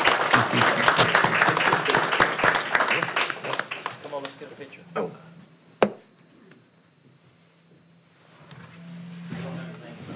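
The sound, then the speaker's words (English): A burst of crowd applause for people receiving an award in Montgomery County, Texas, dense and loud at first, thins out and fades over several seconds, followed by a single sharp knock and a low murmur of voices. “Thanks, we applaud you again.”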